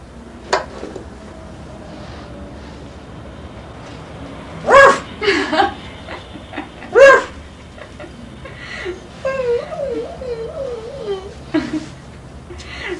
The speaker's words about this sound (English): It's a dog. Put your hands on it.